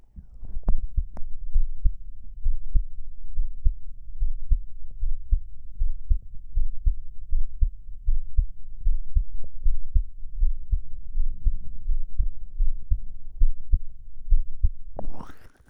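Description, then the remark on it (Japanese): A rapid heartbeat thumps steadily, muffled low-frequency pulses heard through a stethoscope-style microphone held to the chest, continuing evenly throughout with a brief rustle at the very end. “結構早いね、心音が。”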